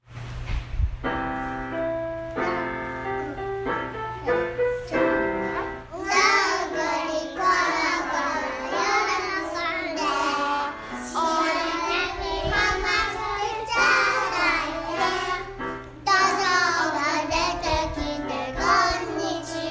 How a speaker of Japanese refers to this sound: 今日は2歳児アヒル組の子どもたちがどんぐりころころを披露します。歌声を収録するときも振り付けをバッチリつけてくれた可愛い子どもたちの歌声をお届けします。